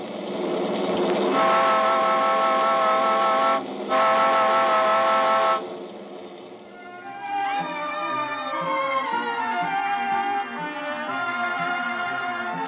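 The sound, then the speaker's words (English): Two long, loud horn blasts sound over a busy background of vehicle noise, followed by a dense mix of overlapping tones and traffic-like clatter at a crowded bus terminal in Miami, Florida, with passengers milling about the ticket office. No one speaks. “A bus terminal in Miami, Florida. Passengers are milling about the ticket office, crowding around the newsstand, fighting for places at the lunch counter.”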